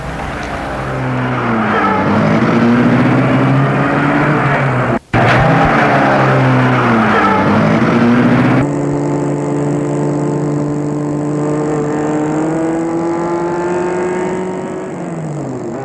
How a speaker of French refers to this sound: Puis, il met la voiture en route.